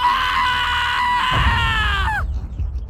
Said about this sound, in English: Then he quivered and shook, and finally allowed himself to let loose a wild scream.